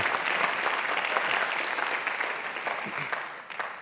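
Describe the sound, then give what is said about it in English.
An audience claps steadily, a dense wash of many hands that stays fairly loud throughout and tapers slightly toward the end, with no talking over it. “I feel a little temptation to clap there.”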